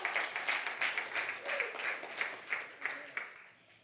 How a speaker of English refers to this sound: That's power. Clap for Jesus. Go on.